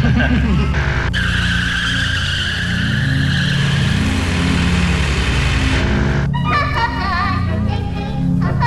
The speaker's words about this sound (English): Everybody wants to rev their engine.